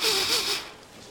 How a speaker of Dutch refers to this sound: Ik kom langs de pan met soep. Ik sta stil. Ik snuif.